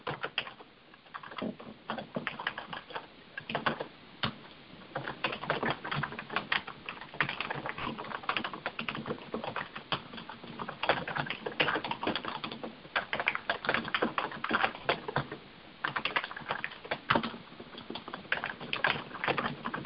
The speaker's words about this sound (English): I'm still typing. Hopefully you guys are still thinking.